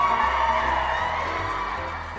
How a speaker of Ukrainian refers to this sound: Чого ці люди так радіють, Наріман? Що це за крики?